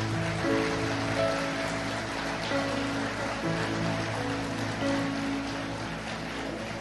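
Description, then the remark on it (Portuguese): An audience applauding for the Lord during a sermon: dense, sustained clapping that stays steady and fairly loud for about seven seconds, with low held musical tones humming underneath. “Se você acredita nisso, dê um forte aplauso ao Senhor.”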